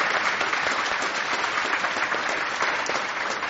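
An audience applauds steadily, many hands clapping in a dense, even wash of sound that holds at a constant loudness without pause or voices.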